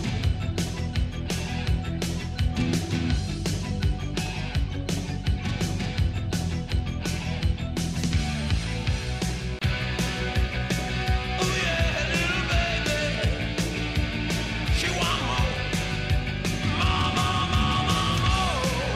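A loud, full-band rock song plays continuously on the radio station Ocean 100, with driving drum hits, dense guitars and a shouted vocal, filling the whole stretch without any talking over it.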